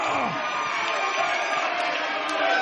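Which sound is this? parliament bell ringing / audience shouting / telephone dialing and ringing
audience shouting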